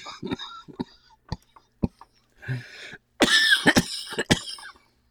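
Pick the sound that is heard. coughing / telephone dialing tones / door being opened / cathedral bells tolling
coughing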